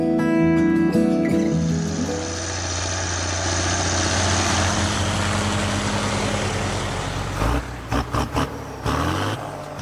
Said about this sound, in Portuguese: Tratores gigantes, colheitadeiras e aviões. É isso mesmo que você acabou de ouvir. Todos esses sons são comuns de escutar nas terras onde é produzido muito dos alimentos que chegam nos mercados em todo o mundo.